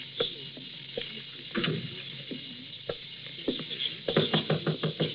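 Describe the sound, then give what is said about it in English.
Knocking on a door: a few scattered, separate knocks, then a rapid, insistent burst of about half a dozen raps near the end, moderately loud, with no talking. “All right, knock it. I'm coming.”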